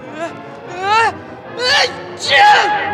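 A loud, theatrical sneeze: three drawn-out, rising vocal 'ah' gasps build up over a few seconds before ending in a forceful, noisy burst.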